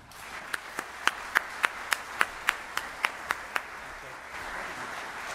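Applause welcoming a speaker at an event in Oshkosh: about a dozen sharp, evenly spaced claps ring out in a quick, steady rhythm over a low wash of crowd noise, then give way to a soft murmur.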